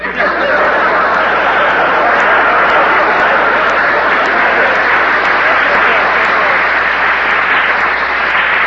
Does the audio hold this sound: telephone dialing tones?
no